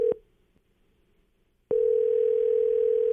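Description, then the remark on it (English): An outgoing call's ringback tone on a call placed on air by K99.1 FM's The Breakfast Club: a steady electronic beep cuts off, a short silence follows, then the same loud, flat tone starts again and holds. No one is talking. “Yep, phone's ringing.”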